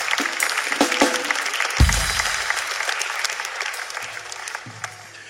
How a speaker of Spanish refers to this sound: Un aplauso para ella.